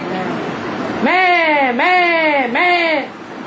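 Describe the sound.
A voice imitates a goat's bleat with three quavering, nasal "meh" calls in a row, each pitch sliding downward and ending abruptly, after a short stretch of murmured background noise.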